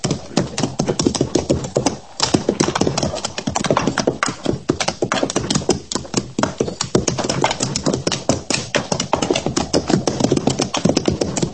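Horse hooves clip-clop steadily and fairly loud throughout, a dense, busy patter of hoofbeats, as if several horses are moving together, with no talking.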